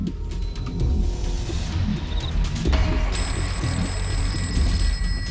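telephone ringing unanswered

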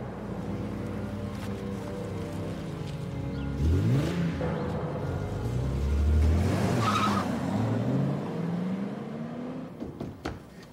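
car speeding away

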